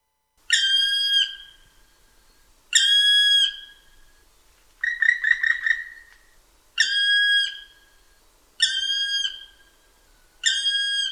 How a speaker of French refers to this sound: Voilà, c'est notre bailleur social. Alors, on écoute notre ami le pic noir.